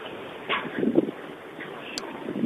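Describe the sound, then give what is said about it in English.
Gusty wind buffets the microphone in a steady, rumbling roar that swells and eases, with faint voices murmuring somewhere underneath, at a high, very windy spot. “It's very windy here.”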